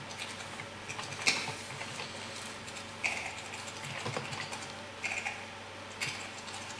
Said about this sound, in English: Looks a bit different on the command line I'm now typing because I did some simplification for me because you've seen I'm not good at typing this morning.